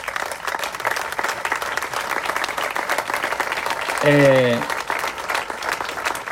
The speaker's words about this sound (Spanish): Pido un fuerte aplauso.